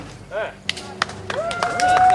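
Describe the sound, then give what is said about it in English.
A few sharp, snapping impacts in quick succession, like an arrow being loosed from a moving horse and striking a target, with voices murmuring underneath and a thin tonal ring toward the end. “Finally, I managed to actually fire an arrow.”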